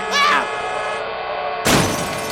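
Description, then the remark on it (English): The Fetch Season 5 truck, going too fast, crashes with glass shattering: a short bright burst early on, a brief lull, then a loud, harsh smash of breaking glass and debris that rings on to the end. “Chet, don't touch that steering wheel! Watch out for the...”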